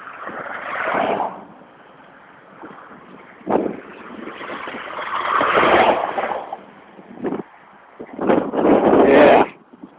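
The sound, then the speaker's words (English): A car and a truck pass by on a road at a farm in Windham, 30 minutes from Portland, each a loud rushing swell that rises and fades, with a steady low traffic hiss between passes and no talking. “Truck. And a car and a truck.”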